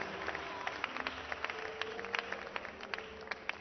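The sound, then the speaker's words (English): Scattered, uneven clapping from only some people in an audience during a sermon, sharp claps landing irregularly rather than in a steady rhythm, at a moderate to soft level over a faint murmur of voices. “Only some people are clapping.”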